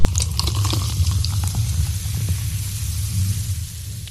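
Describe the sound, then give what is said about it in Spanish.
A beer can cracks open with a quick snap, then beer pours steadily with a fizzing hiss and crackling bubbles for a few seconds, with no voices. “Era la primera lata de cerveza, un invento que revolucionó el sector”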